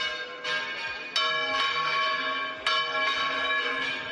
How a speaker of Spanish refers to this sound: Repique de campanas para recordarte que el patrón de Zamora es San Atilano